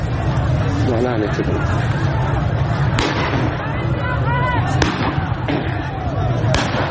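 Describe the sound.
Several sharp shotgun blasts, about four, of pellet rounds fired at people at a protest, crack out at irregular intervals over a dense, loud crowd of shouting and agitated voices.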